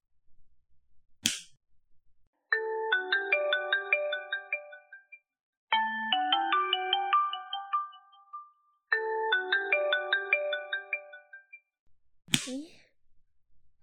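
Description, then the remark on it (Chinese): A mobile phone ringtone for an incoming call late at night plays a bright electronic melody, repeating three times in loud, steady phrases. A sharp crack sounds just before the ringing starts and again right after it stops. “这丫头现在打电话来干什么呀？”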